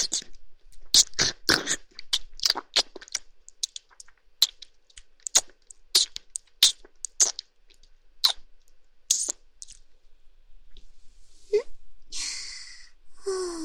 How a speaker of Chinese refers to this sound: 嗯，我把主人的脚趾全部含在嘴里，全部吮吸。